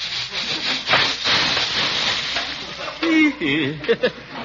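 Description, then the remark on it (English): A popcorn popper holding old popcorn that will not pop is shaken over heat, giving a steady gritty rattling and scraping with a faint sizzle underneath. Near the end a voice briefly mutters over the noise. “I think it's too old to pop. Nonsense, my dear. Here, let me give it a shake.”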